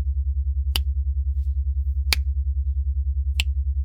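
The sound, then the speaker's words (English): Three crisp, sharp finger snaps at a slow, even pace, each about a second and a bit apart, over a constant low throbbing hum. No one speaks. “Every time I snap my fingers, I want you to pull on your nipple clamps.”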